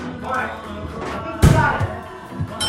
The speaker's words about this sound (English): He lets go of the phone and slams into a tile floor.